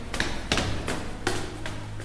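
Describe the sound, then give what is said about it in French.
A series of heavy, dull thuds lands at a steady pace, about five blows in two seconds, as the large door of a house on the rue Morgue is battered and forced open, over a low background hum. “La grande porte fut forcée et 8 ou 10 voisins entrèrent, accompagnés de 2 gendarmes.”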